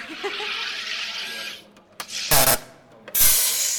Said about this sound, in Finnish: Okei, eli ensin täällä Sodastreamissa nyt hiilihapotettiin vettä.